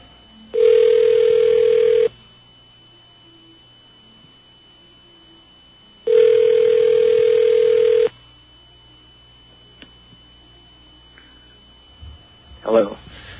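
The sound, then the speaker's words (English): Two steady ringback tones on a phone line while calling a Sprint phone, each lasting about a second and a half with a pause of about four seconds between them, over faint line hiss, then a brief sound at the end as the call is picked up. “You heard two rings. I heard two rings.”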